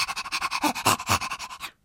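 A dog pants quickly and steadily, roughly fifteen short breathy huffs in under two seconds, fairly loud, with no other sounds before it stops abruptly.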